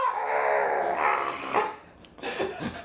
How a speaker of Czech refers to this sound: No, oni vlastně nemají tu klasickou vysokou, jako máme my to. Oni to máš, jak kdyby si prostě vzal tady tu naší klasickou a rozmlátil jí kladivem. A přesto potom hráli, takže tam jede prostě policejní auto, jo, a přes celé město slyšíš.